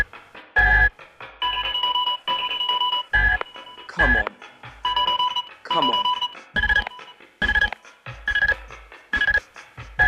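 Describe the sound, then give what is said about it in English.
A telephone rings in short, repeated electronic bursts, loud, while a voice talks impatiently over and between the rings. “Answer the phone.”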